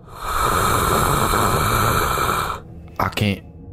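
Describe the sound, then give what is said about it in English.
A voice imitates a crocodile, letting out a long, loud, breathy hiss for over two seconds, then a short throaty growl after a brief pause. “And Cletus, for the first time in a very long while, you hear Steve's voice as an ordinary crocodile hiss without your communicator on.”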